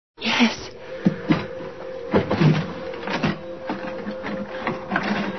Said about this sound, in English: Open the drawer